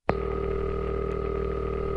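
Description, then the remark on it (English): A single steady electronic telephone ring tone from a home phone with an answering machine, a flat buzzing hum held for about two seconds and then cut off, with no voices. “It would ring three or four times and then you'd hear.”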